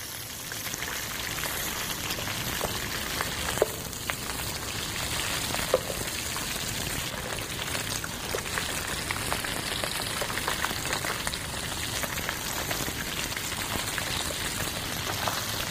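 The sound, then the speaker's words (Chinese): Steady sizzling and crackling of food being briefly deep-fried in plenty of hot oil in a pan before pan-frying, in a restaurant kitchen, until golden; a continuous dense hiss with occasional sharper pops, no voices. “然后这样我们在餐厅就是这样，只是用讲求速度，然后会略炸一下再来煎，这样会比较快。”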